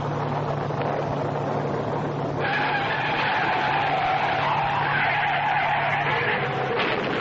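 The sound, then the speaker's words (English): Car tires skid with a loud, sustained screech over a rough roar of road noise as Harry Clark's car skids on a highway in bad weather, sending it through the guardrail, the high squealing whine swelling after a couple of seconds and holding to the end. No voices. “Harry Clark's death from the skid that sent him hurtling through the guardrail”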